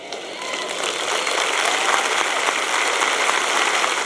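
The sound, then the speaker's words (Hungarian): An audience claps steadily, a dense crackle of many hands that swells slightly after the first second and holds at a fairly loud, even level throughout, with no voices over it. “Még nem végeztem, még ne tapsoljatok.”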